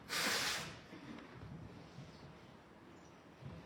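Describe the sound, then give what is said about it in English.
A single loud, forceful nose blow bursts out and lasts about half a second, followed by quiet rustling and low background rumble with no talking. “Sorry, I need to blow my nose.”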